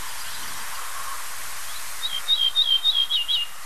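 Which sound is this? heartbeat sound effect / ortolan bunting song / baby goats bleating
ortolan bunting song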